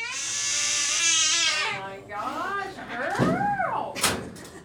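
cat meowing

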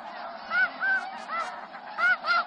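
goose honking

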